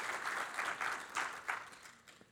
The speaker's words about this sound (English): God bless you guys. Let's just, why not applaud for you guys? Thank you, guys. Thanks, you guys.